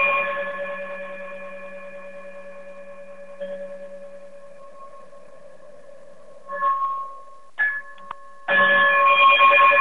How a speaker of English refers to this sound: if you can, chime us out.